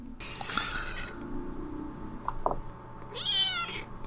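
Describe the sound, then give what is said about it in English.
A snowshoe cat named Cinnamon, lying in a lap while being petted, meows fussily twice, a long wavering cry followed by a second drawn-out, higher meow, with faint rustling in between and no talking. “Cinnamon is being fussy again.”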